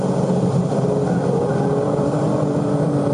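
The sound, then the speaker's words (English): A loud, steady roar of a Formula One car engine at high revs in third gear through a corner of a circuit fills the whole recording, continuous with a constant droning pitch and no voices. “For this corner, you're in third gear in the Formula One car.”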